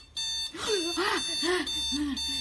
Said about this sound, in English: That stupid alarm clock.